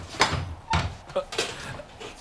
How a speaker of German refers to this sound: Von wegen. Ich höre Schritte.